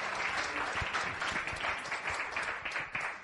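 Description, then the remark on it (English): An audience claps and cheers for the Lord, a dense wash of applause with scattered voices calling out underneath, holding at a fairly even loudness throughout. “Give the Lord a cheer.”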